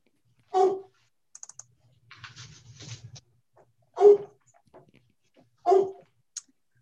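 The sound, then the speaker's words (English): A pet dog barks three times, loudly, in the room during an online meeting, with irregular pauses between barks while keyboard clicks and light typing fill the gaps. “I will share my screen and then go calm my dog.”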